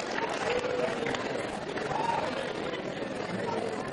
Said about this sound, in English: And give you applause.